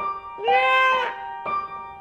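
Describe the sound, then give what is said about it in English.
Foxes' mating calls at 5 a.m.: a long, wailing, high-pitched shriek that rises and wavers for about half a second, then a second cry begins, with no talking. “Did you hear those foxes”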